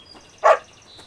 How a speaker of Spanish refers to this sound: Su perro, Gruñón, empieza a ladrar.